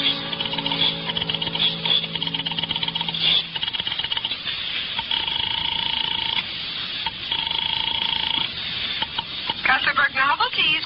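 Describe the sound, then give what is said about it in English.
A rotary telephone dial clicks and whirs in short bursts, fairly loud, as someone with a shaking hand dials an office number, fumbles the dial and starts again, with steady tones humming between the turns over a crackly, hissy background. “I bolted the door, picked up the phone, and started to dial the number of Harvey's office”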